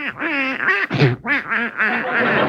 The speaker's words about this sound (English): Get out of my bed, you silly-looking duck. Out.